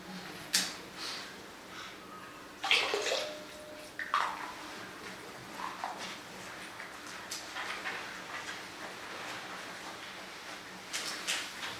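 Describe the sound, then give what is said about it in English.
River water from a branch of the Boulder River in Montana splashes and pours in uneven bursts, with a few louder sloshes and gurgles separated by quieter trickling, and no one speaking. “So this water is representative of all those lakes, but this is from one of the branches of the Boulder River.”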